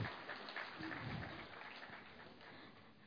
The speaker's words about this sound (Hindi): हम सभी ताली से स्वागत करेंगे।